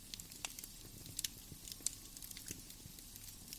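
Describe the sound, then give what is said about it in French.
Logs crackle in a fireplace in a small cabin, with irregular sharp pops and snaps over a soft, steady rush of flames. The fire is moderately loud, and no one speaks. “Puis, vous vous dirigez vers la cheminée et vous vous asseyez en tailleur devant le feu qui crépite.”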